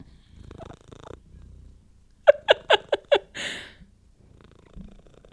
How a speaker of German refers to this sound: Es ist 3 Sekunden später und er schnurrt.